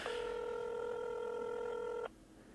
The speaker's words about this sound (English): There it goes. There I got one. He's gonna answer the phone. Pick up. He's probably screening me.